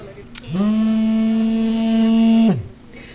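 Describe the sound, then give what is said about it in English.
A drone detector alarm at a charity food distribution centre in Kherson, warning of at least four drones overhead, sounds as one steady, buzzy electronic tone lasting about two seconds, sliding up at the start and dropping away at the end, loud with no voices. “The sound you hear there, that's a drone detector telling us that there are drones overhead.”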